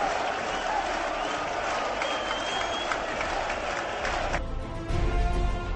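A big football stadium crowd at Heliodoro Rodríguez López stadium, Tenerife, roars and applauds at halftime with Tenerife leading Las Palmas 3-0, a dense, continuous wash of cheering and clapping from many voices that holds steady, then shifts toward a rumbling low swell near the end.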